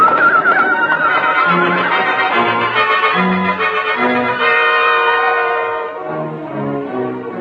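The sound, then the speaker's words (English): Horses neigh and whinny loudly, several shrill, wavering calls overlapping almost continuously for several seconds, with no voices present, by a canyon outcrop during a fire. “We got a chance of making it by staying right here. If our horses don't bolt.”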